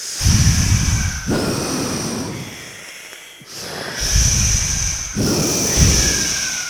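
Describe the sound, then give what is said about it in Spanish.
A voice acting as the big bad wolf in a told story imitates hard, forceful blowing at a little pig's straw house, which then falls. There are about four long, breathy gusts of rushing air, loud and low-pitched, with a brief quieter pause in the middle and no talking. “El lobo empezó a soplar.”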